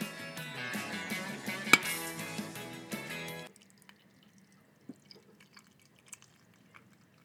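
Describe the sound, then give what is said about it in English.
Music plays for a few seconds and cuts off, followed by morning coffee being poured into a cup, a faint trickle with occasional soft drips and small clinks. “Pouring our coffee, waking up from our boat warming party that we had yesterday.”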